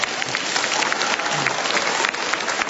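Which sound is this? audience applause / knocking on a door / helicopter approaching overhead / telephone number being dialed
audience applause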